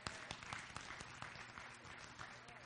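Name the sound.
audience clapping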